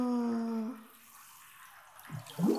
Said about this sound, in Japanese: お湯に沈めると、頭から小さい泡がいっぱい出てくるっす。ぷくぷくぷく。